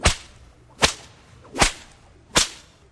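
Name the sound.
whip lashing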